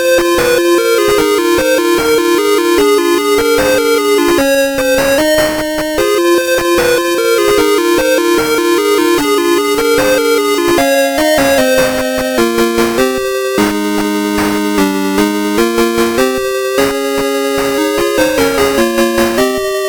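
A bright, bleepy 1991 Sega video game tune plays on its own, with buzzy square-wave melody lines stepping over a steady pulsing bass at a constant, loud level throughout.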